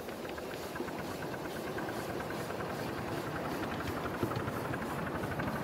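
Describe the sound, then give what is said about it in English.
A cold steam locomotive pulls away on a touch of regulator with its cylinder drains left open, giving a steady, loud hiss of escaping steam and a slow rhythmic chuffing pulsing underneath, continuous throughout, with no voices. “Just a touch of regulator. The engine's got cold, so I'll leave the drains open for a moment.”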